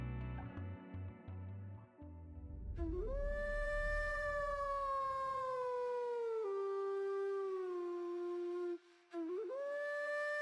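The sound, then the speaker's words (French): A long, mournful wolf howl rises and holds steady for several seconds, dips briefly, then swells again, loud over a low rumbling background at the start. “Qui n'a jamais entendu lors d'une veillée l'histoire de l'homme qui, sous l'influence de la pleine lune, se transforme en bête féroce et hurlante?”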